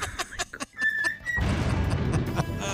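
A parrot whistles one steady, high-pitched note for about half a second after a few short clicky bursts, then a loud, dense wash of noise takes over.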